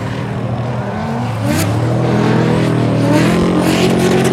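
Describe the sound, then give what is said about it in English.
Off-road race cars in a long desert race of over 600 km roar loudly and continuously, one revving upward in pitch partway through as the layered growl swells and holds, with no voices over it. “C'est une course qui est aussi hors route, donc dans le désert, dans les buttes.”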